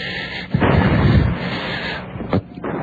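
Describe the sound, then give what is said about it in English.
Gunfire booms out in a heavy burst that rolls into a sustained, rumbling roar for over a second, followed by a second sharp report near the end. No one speaks. The shooting is in the distance, downtown. “What's that? The shooting. Downtown. The shooting.”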